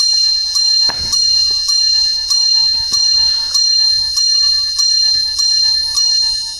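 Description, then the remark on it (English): A clock's bright, ringing chimes strike eleven times in a steady, evenly spaced sequence, loud, each tone overlapping the fading ring of the one before, with no voices. “Yeah, I was going to say 11 chimes represent.”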